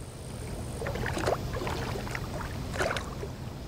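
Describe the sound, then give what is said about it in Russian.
A rowing boat crosses a river, oars dipping and splashing in slow, regular strokes, with a steady low watery wash underneath and no voices. “Перевезли их принца опять через реку, а солдат на этот раз сел на переднюю лодку к старшей.”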